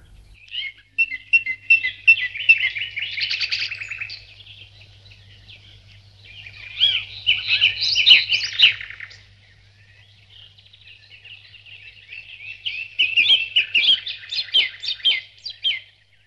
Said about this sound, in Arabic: العصافير تغرد على الأشجار.